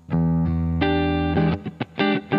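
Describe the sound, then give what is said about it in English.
An electric guitar played through a computer with a default clean amp preset plays a few sustained notes, then a quicker run of short plucked notes toward the end, with no voices. “And now we should have a guitar sound going through the computer into your ears.”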